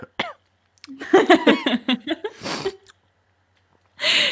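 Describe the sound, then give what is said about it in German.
A person imitates the quiet coughing of a silent audience, as sometimes cut into films, with a short series of voiced, throaty coughs followed by a couple of breathy, noisy bursts, each separated by brief silences, not loud. “Vor allem, das wird ja manchmal so in Filmen so mit reingeschnitten, einfach dieses leise Husten von einem stillen Publikum.”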